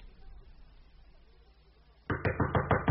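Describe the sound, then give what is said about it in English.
After two seconds of near silence, someone raps loudly on a door, a quick, even run of about six or seven sharp knocks with no voices. “Who is that knocks?”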